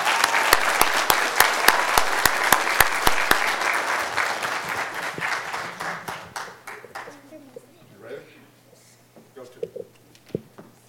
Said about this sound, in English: But before we do that, let's give them another great round of applause.